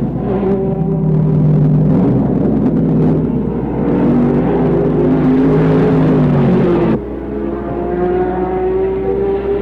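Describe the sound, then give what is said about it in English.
Loud racing car engines roar and whine with shifting pitch during an endurance race at Sebring, including screaming 12-cylinder factory Ferraris and an 8-cylinder Alfa, rising and falling as cars pass, with a sudden drop near the end as one sweeps by. “his 8-cylinder engine and chassis weight cannot compete with the screaming 12 cylinders of the lighter cars from factory Ferrari.”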